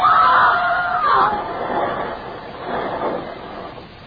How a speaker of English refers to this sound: The car goes hurtling over the edge, crashing through the shrubbery and small trees, the motor roaring and screaming in the night.